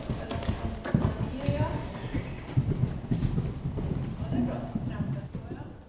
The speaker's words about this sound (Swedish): tillsammans med hästen Trolle sig över ett cirka 60 cm högt hinder i ridhuset.